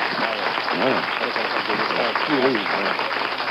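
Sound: audience applause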